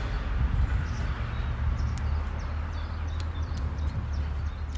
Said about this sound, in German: Also wir sitzen hier um den Wassergraben, die Vögel zwitschern.